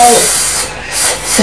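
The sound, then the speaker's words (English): A voice makes a long, breathy snake hiss, a steady high-pitched airy sound that swells, dips and swells again over about a second and a half. “What noise does a snake make?”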